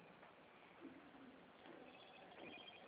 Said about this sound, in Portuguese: Ai, o telefone toca.